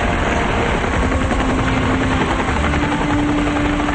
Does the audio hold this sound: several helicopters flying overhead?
yes